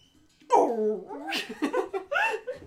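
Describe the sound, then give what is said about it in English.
A person's voice imitates a creature's roar: a strained, growly vocal burst followed by several shorter rasping snarls, loud, with no other sounds behind it. “You hear a massive thunk, and then rawr!”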